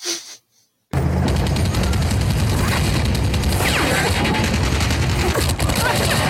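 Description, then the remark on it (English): In a film scene, a man shoots at a truck full of people: after a brief quiet pause, a dense, loud barrage of rapid gunfire erupts and continues without letting up, sharp crackling shots piling over each other in a sustained fusillade, with voices faintly mixed in. “You're shooting fish in a barrel, literally.”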